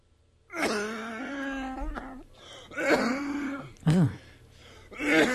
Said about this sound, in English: But can I play a sound effect of the cough? I almost don't want to because it's so embarrassing. It's so bad. Now you have to. It sounds like it's close to death. Listen.